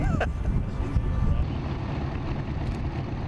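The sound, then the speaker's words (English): A small aircraft taxis on the airfield before its first flight, waiting for clearance, its engine a steady, dense low rumble throughout, with some wind buffeting and a brief high whine near the start. “He's just taxiing now.”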